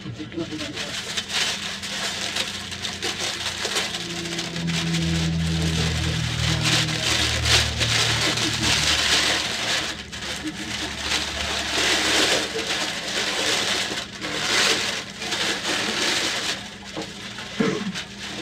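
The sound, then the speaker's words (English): Paper is ripped up in a long run of loud, crackling tears that rise and fall over about eighteen seconds, with a low rumble and faint murmuring underneath. “We can both rip paper, though.”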